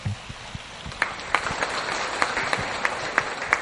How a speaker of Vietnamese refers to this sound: Mời quý vị dành tràng pháo tay cho Đại Đức Thượng Trí để nghe là sự chia sẻ.